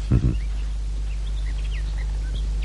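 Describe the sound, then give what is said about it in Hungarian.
Faint birds chirping at one o'clock in the afternoon, in short, scattered calls over a low steady hum, with a brief dull thump right at the start. “A madarak csicseregnek,”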